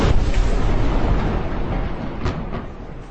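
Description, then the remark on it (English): A massive explosion to the north of a building, heard as a loud, deep rumbling roar that fills the whole moment, with a couple of sharper cracks near the end. The blast shakes the building and glass shatters. No voices. “The building just shook, of course, because I was looking at the camera. I didn't see where the blast took place.”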